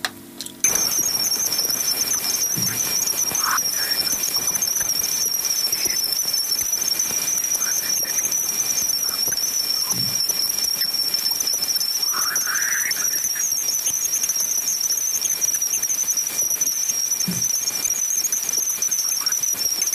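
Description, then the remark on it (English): Jupiter's magnetosphere radio emissions, from solar electrons colliding with Jupiter's magnetic field, recorded by the Voyager 1 spacecraft as it approached Jupiter's bow shock and rendered as sound: a loud, unbroken high-pitched whine over dense hiss, with faint scattered chirps and swoops drifting underneath throughout. “During its investigation of Jupiter, the Voyager 1 spacecraft was able to measure the radio waves emitted by solar electrons colliding with Jupiter's enormous magnetic field.”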